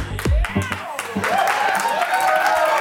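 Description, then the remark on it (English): Scattered audience clapping, a few sharp claps at a time, mixes with a loud swell of crowd voices throughout, after a brief low rumble at the start. “Don't clap for that.”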